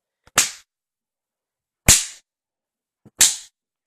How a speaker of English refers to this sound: Of course she liked it. And she liked that one too. Do you see how pink her skin gets from my slaps?